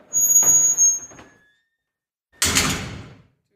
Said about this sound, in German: Mach mal die Tür richtig schön zu, das hört man so schön. Ganz ehrlich, wenn ich hier im Knast sitze und höre die Tür, ne, wie die aufgeht, da schaudert es mir schon.